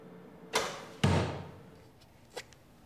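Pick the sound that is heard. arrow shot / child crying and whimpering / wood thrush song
arrow shot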